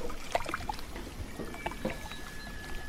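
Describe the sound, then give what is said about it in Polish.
Water sloshing and lapping in irregular splashes, with small bright plops and gurgles scattered through a steady low watery background, moderately quiet, as water is pumped from a container and poured in a kitchen. “Woda chlupie nad jeziorem.”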